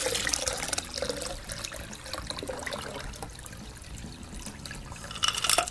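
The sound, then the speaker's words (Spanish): Water is poured steadily from a bucket into a jar already filled with stones and sand, by a lecturer during a demonstration, for several seconds, a continuous splashing, gurgling stream that swells briefly louder near the end. No one speaks. “Después de esto, y antes que los asistentes a la conferencia, nuevamente y de manera ingenua, pudieran afirmar que, ahora sí, el frasco estaba completamente lleno y que no le cabía nada más, el expositor vertió una cubeta con agua adentro del frasco.”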